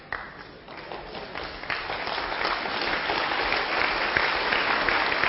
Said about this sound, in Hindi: तो वैसे ही आपने अब बैंड बजाना है तालियों के रूप में। अगर आप खड़े हो जाएं तो आपकी थोड़ी सी नींद भी गायब हो जाएगी और हम एंजॉय भी कर सकते हैं।